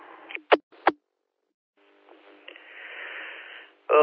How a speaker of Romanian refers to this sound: Oricum, salutăm și stația care tot încearcă să ne salute pe Istrița, dar fără indicativ, doar cu PTT-ul.